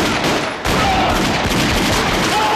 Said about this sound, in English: A shootout ensues in which they both take hits.